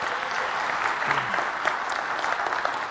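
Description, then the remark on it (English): A crowd claps steadily to thank volunteers, a dense wash of many hands with no clear individual beats, holding at an even, moderately loud level throughout. “And I think let's give them a round of applause and say thank you to them.”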